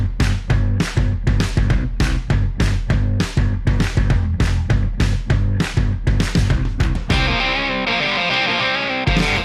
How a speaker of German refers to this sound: Okay, dann würde ich sagen, an dieser Stelle wie immer, Musik bitte.